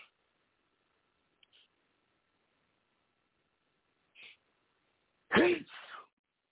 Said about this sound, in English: I'm sorry, people. I'm sorry I had to sneeze on there. You know how when you have to sneeze, it's taking a long time to come out. That's why I said excuse me, because I need to take a little pause and get that out.